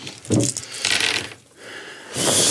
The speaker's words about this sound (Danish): Så er de flammefarvede. Det er de flammefarvede terninger. Lad os slå og høre.